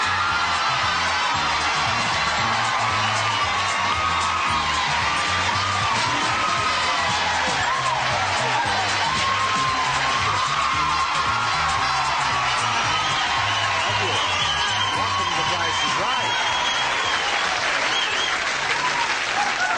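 The studio audience of the game show The Price is Right claps loudly and steadily for about twenty seconds as the show's star is introduced, with scattered cheers and whoops rising through the dense, continuous applause.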